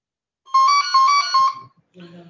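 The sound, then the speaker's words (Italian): A mobile phone rings during a meeting with a bright electronic melody in three quick tonal bursts, fairly loud, before a voice briefly starts speaking. “Forse c'è un telefono di qualcuno che suona.”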